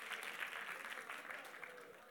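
An audience applauds in a dense, steady wash of many hands clapping, fairly loud throughout and easing off slightly toward the end, with no clear speech over it.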